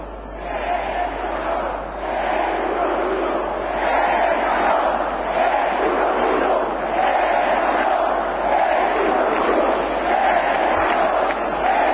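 A large crowd at a demonstration of nearly 100,000 people in Salamanca chants "España" over and over, interrupting the reading of a manifesto: a dense, steady roar of many voices that stays loud and unbroken for the whole stretch, with only a slight dip at the start.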